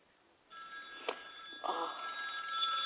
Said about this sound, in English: The phone's ringing. Yeah, I know.